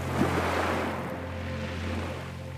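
Soft ocean waves wash in a steady, continuous hiss with a low, even rumble underneath. There is no talking, and the surf holds a fairly constant level throughout.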